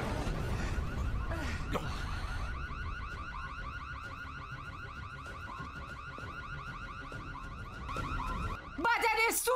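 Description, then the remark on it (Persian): An evacuation alarm siren on a submarine blares continuously, repeating a rapid pulsing tone in a steady cycle over a low rumbling background, with a brief burst of warbling tones near the end. “مسدود کردن محفظه اژدرا، به صدا در آوردن آژیر تخلیه بستن درپای زده آب.”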